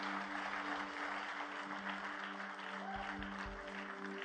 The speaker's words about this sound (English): The reason we're all applauding is not because you're on show or anything like that. We remember the day, the moment in our life when we made this decision.